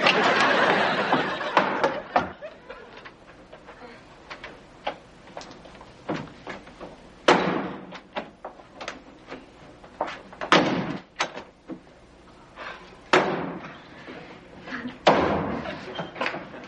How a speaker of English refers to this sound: Will you please stop slamming the doors?